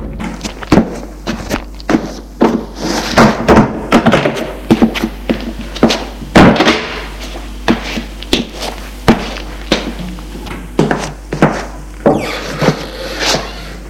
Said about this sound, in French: Une porte s'est ouverte et Pierre voit une grande femme mince, rousse, très belle en blouse blanche.